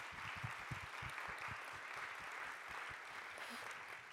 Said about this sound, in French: On vous applaudit.